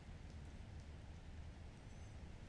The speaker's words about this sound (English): Sounds like the rain's getting lighter too.